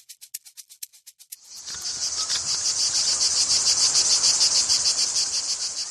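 insect, cicadas chirping

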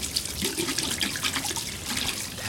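household object, running tap water

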